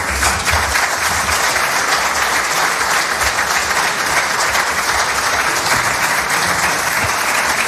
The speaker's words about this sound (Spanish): Bueno, pues en el ambiente tan tirante de ayer, los pelotas de Sánchez arrancaron con aplausos apenas terminó el fiscal general.